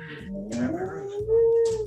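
A dog lets out a drawn-out, rising whine that swells into a sustained howl-like tone, fairly loud, with brief shuffling noises of the dog moving around in between.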